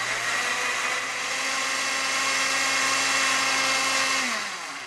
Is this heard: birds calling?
no